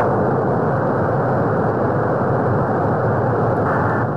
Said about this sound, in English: It's a world premiere with Jimmy and Nate, the sound deep under the ocean.